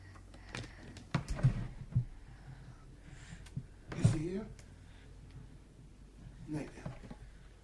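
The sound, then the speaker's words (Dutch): A wooden drawer scrapes and slides open, with a few knocks and rattles of handled objects, while quiet voices murmur in the background. “Ja, anders kan ik de la niet open doen.”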